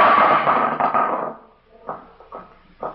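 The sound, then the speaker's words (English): A pot lid, picked up from a kitchen counter and intentionally dropped by a man, hits the kitchen floor with a loud metallic clang and ringing crash that fades over a second, followed by a few softer rattling bounces as it settles. “He steps to a counter, picks up the lid of a pot, and intentionally drops it.”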